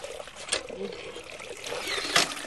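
Drinking water from a well pours and splashes into a bucket in a steady, hissing stream on a river embankment in Assam beside a flooded village, with two brief louder gushes standing out from the continuous trickle.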